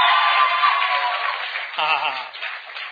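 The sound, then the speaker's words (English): An audience claps hands for Jesus in a steady, dense burst of applause that fills all three seconds, loud throughout, with a brief voice rising over the clapping partway through. “Come on, let's give Jesus a huge hand clap right now.”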